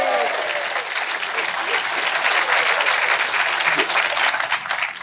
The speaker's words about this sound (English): So, because you bigged up your kids, I've got to big up my niece just in the front. Make some noise. Yeah, round of applause for niece.